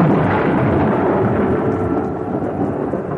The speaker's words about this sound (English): The night of the storm. Such a storm. There'd been nothing like it since the night he'd barged in on Arthur in the garden shed.